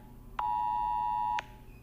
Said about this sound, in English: So apparently, in addition to my phone being blanked, having a blank screen if I don't hit the OK button, it will keep sending the alert. So I just got another alert.